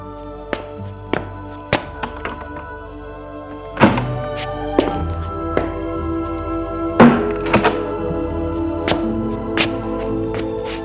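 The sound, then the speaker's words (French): A woman opens the door of a building's entryway to let a young man in: a run of dull thunks and knocks, with heavier clunks midway and again later, over a steady low hum, with no voices. “Elle ouvre la porte de l'allée pour le faire entrer.”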